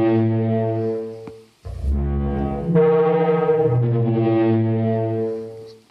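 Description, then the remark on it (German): A deep, resonant horn-like bellow, somewhere between a trombone and a foghorn, sustained loudly over several seconds with a brief break and shifting low tones; a simulated Parasaurolophus call. “Also so irgendwas zwischen einer Posaune und einem Nebelhorn.”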